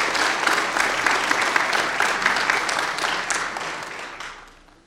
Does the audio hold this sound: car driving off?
no